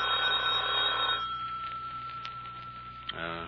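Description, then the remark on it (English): A telephone rings with a bright, buzzing bell tone that sustains for about a second, then a steady ringing tone continues more softly, ending with a short click and a final ring burst. “The phone's ringing.”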